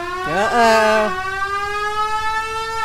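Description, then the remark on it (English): An organ plays a siren sound effect for a chase in a movie: a bright, reedy tone swoops up in pitch, wavers, then settles into a steady sustained wail that holds loudly to the end. “And then if they're going too fast and they get the chaser behind them.”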